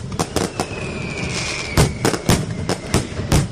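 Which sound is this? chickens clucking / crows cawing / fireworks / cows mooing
fireworks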